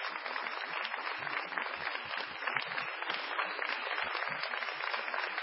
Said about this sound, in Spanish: Así que un fuerte aplauso para ellos también.